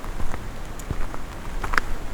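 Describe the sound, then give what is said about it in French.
Wind-driven drops patter lightly and irregularly on the leaves of broadleaf trees over a steady soft rushing wash, with a few sharper, brighter taps standing out. No voices are heard. “qui éclabousse avec délicatesse les feuillus.”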